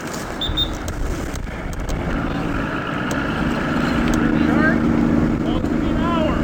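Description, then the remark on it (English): A police divers' boat motor drones steadily as it heads out on the Bay of Quinte to continue the investigation into a missing man, its low rumble building slightly as it gets under way, with faint indistinct voices mixed into the engine noise. “Police divers head out on their boat to continue the investigation of a man who went missing around midnight Sunday night.”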